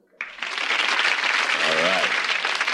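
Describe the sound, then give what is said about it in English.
A burst of studio audience applause for The Larry Sanders Show, cued by an applause sign, starts abruptly and holds at a steady, loud level, dense with clapping; a brief voice-like cry rises faintly within it. “It says applause.”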